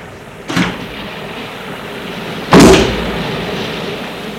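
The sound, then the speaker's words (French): A car door slams shut with a heavy thud after an earlier, softer knock as a man stops his car and gets out, the second impact louder and ringing briefly over a steady low rumble. No voices. “Il est sorti de voiture.”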